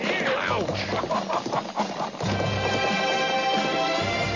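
A sound effect of quick, steady clip-clop of horse hooves followed by a shrill, wavering whinny, both loud, played over a busy layered backdrop with a voice-like murmur mixed in.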